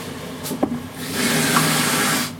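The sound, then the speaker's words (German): A sharp knock of metal, then water is poured into an empty 250 ml coconut milk can, filling it to about 100 ml as a measure for cooking: a steady rushing splash for about a second before it stops. No one speaks. “Und wenn du das Ding halb mit Wasser füllst, hast du ja so, naja, nicht ganz halb, ne?”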